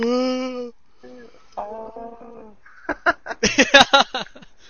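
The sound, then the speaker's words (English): Dogs howl in drawn-out, wavering tones, then break into a quick run of sharp yips and barks. No one speaks. “Oh, dogs howling in the background.”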